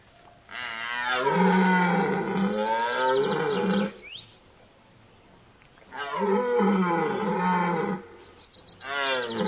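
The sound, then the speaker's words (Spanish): Deep, drawn-out roaring bellows of rutting stags during mating season, duelling calls answered by other stags: two long loud calls a couple of seconds apart, with a third starting at the end; raw, with no talking. “Estas llamadas son respondidas. Son gritos de duelo. Todos los ciervos, hasta los más jóvenes, participan.”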